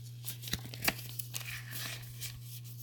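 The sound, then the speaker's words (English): Crisp rustling and crinkling of paper being picked up and handled, with a few sharp snaps and crackles over a steady low electrical hum; no one speaks. “Oh, let me just get my paper.”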